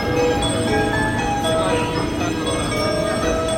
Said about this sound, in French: Prendre le train ou le métro au Japon, c'est voyager dans un univers sonore unique où s'enchaînent sans cesse messages et courtes ritournelles.